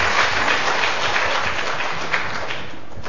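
An audience applauds steadily, offered up to God and the Virgin Mary after a thanksgiving testimony, a dense wash of many hands clapping at once, fairly loud, sustained for a few seconds with no talking over it.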